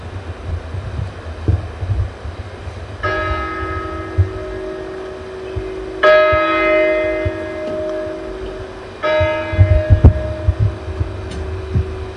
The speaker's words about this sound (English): this is what those bells sounded like, and I hope this comes through. There were three bells, and then you'd say the prayer.